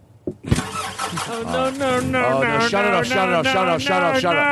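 car engine starting

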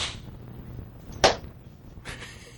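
hand clap

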